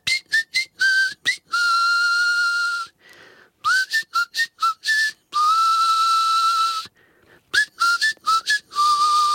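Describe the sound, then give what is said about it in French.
A person whistles a tune through the front teeth, alternating quick clusters of short notes with long held tones, repeating the phrase three times with brief pauses between. “Je siffle entre mes dents de devant.”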